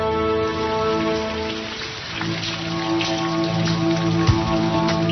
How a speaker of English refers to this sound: The blazing heat has given way to rain.